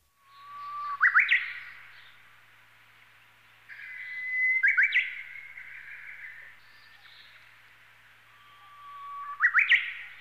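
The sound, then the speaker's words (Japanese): A Japanese bush warbler sings clearly in a town, repeating its long held whistle that ends in a quick rising flourish three times, with pauses between phrases and no voices. “おいおい、今度はウグイスかよ。”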